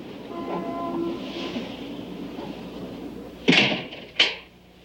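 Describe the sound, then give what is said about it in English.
Over a steady low rumble of traffic or a passing train, an apartment door is unlocked and pushed open, with a sharp metallic click followed by a second clunk a moment later. “At the apartment, Lynn sleeps on the couch as Harry unlocks the door. When he enters, she awakens.”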